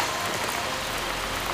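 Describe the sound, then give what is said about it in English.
Steady rain falls in a dense, even hiss, a continuous wash of fine droplets pattering on a surface with no pauses and no voices. “Suddenly, it began to rain.”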